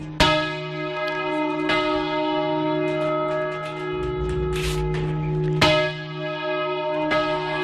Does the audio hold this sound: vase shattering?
no